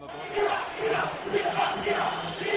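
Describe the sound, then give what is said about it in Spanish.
A large football crowd at Mendizorroza stadium in Vitoria chants in unison at the end of Alavés's 0-1 defeat to Getafe, calling for the return of Luis García; a dense roar of many voices rising and falling in a steady rhythmic pattern, loud and sustained throughout with no single speaker. “Esto era lo que gritaba Mendizorroza al término del partido de ayer en la derrota 0-1 frente al Getafe.”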